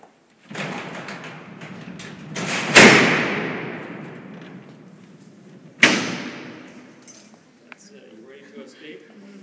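Heavy steel prison cell doors at Alcatraz rumble along and are slammed shut twice, each a loud, booming metallic crash that rings and echoes before fading, with faint murmuring afterward.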